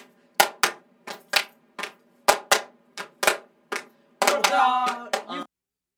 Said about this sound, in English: And then we'll put a clapping layer in. Over it. Okay. Okay. Okay. We'll be all able right. to hear it through the headphones. We'll put a clapping layer over.